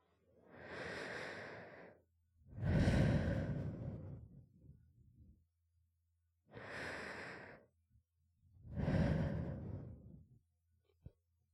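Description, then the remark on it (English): Two slow, deep breath cycles, each a drawn-in inhale followed by a louder, airy exhale, with short quiet pauses between them and no talking. “I get back to the idea that I am inside the spirometer and instinctively try to regulate my breath the best I can.”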